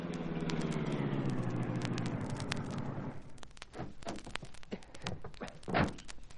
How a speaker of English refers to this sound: We'll pull over and stop, Cato.